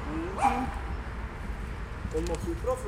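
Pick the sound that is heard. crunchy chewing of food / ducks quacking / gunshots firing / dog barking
dog barking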